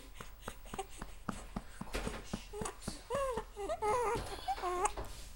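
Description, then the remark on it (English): A baby boy hiccups over and over in short, evenly spaced bursts before breaking into soft fussy whimpers and babbling noises. “And he got the hiccups.”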